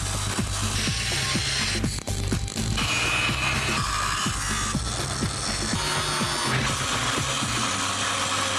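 A metal pipe being knocked into shape: repeated sharp clanging blows in an uneven rhythm, loud over a constant bed of mechanical clatter and workshop noise, with no talking.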